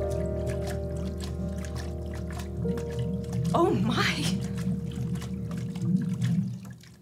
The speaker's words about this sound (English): The sound of the washing machine merges with the sound of the ocean.